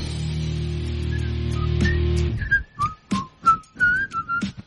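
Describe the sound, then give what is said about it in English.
A person whistles a melody over a loud, full music track, the theme of the Andy Griffin Show on News Radio 890 KDXU. After the music stops, the clear whistled tune continues alone in short, bright phrases with brief pauses between them. “singing or whistling along with the theme.”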